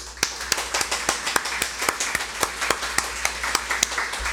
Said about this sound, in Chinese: 我哋真係要鼓掌，唔係俾我鼓掌，係俾主耶穌。